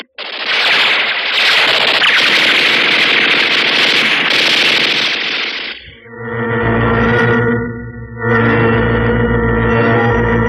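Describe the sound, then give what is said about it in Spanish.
A loud, dense barrage of rapid gunfire from Chatas Metaxas and his armed men firing at an arsenal rattles nonstop for about six seconds, then cuts off and gives way to a sustained, droning tonal sound with a brief dip near the end. “Sanguinario Chatas Metaxas y un grupo de sus hombres armados se adelantan, interrumpiendo sus furiosos disparos y con la intención de penetrar al arsenal.”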